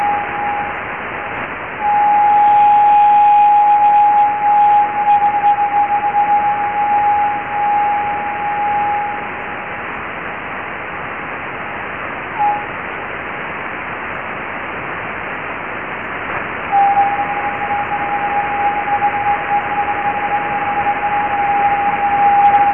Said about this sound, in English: in this recording that we made with the aerial that's set up at Jodrell, you'll hear high-pitched noises in this recording that are basically the echo of this transmission coming back off the meteor trails. So these are actually the Leonid meteors.